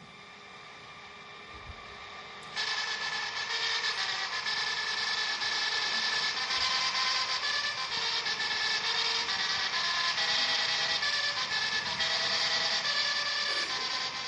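After a brief near-silent start, a 14-3 mechanical printer plays music by printing dots, letters and characters, launching into steady, loud buzzing and rattling with pitched tones that shift like a crude tune, continuing without pause and no voices.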